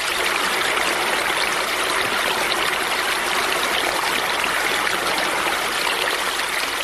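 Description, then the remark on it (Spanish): Steady rain falling outside pours down in a continuous, even hiss with no pauses or distinct drops, a dense wash of sound that holds the same loudness throughout, with no voices. “Escuchó que afuera seguía lloviendo.”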